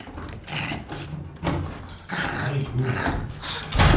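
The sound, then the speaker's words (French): A dog growls low and whimpers in short, uneven bursts, moderately loud, with a sharper noisy burst at the end and no talking. “T'as pas entendu un chien ?”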